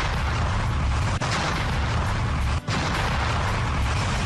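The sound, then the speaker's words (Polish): Loud blasting noise from a construction site in the Tatra National Park, Poland, near the Wielka Krokiew ski jump, a continuous heavy rumbling roar that stays steady throughout, broken only by two very brief dips. No one speaks. “Bardzo ten hałas jest uciążliwy? Oj, bardzo. Zresztą sami posłuchajcie.”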